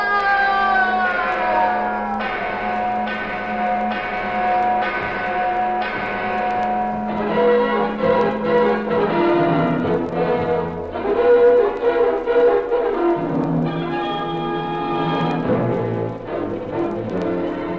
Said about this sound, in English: And, as the legend had predicted, the mission bell at San Linda rang out, for the treasure was in the bell tower.